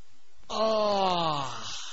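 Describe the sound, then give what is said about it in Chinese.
A male storyteller's voice imitates a long, drawn-out yawn as the character Xu Ning yawns and stretches: one sustained groan-like tone sliding slowly downward in pitch, heard alone with no other speech. “就看徐宁把那书本往桌子上一放，打了个哈欠，伸了个懒腰。”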